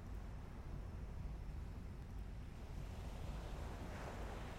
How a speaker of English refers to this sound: You naturally close your eyes and breathe even deeper, enjoying the gentle sounds of the sea and the warm sun on your face, the breeze playing on your skin.